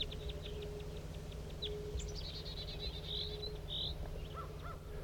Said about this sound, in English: Here come some wild birds. Wild bird. Wild bird in flight. It's going towards the main flock.